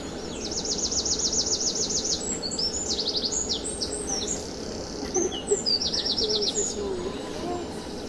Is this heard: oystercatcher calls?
yes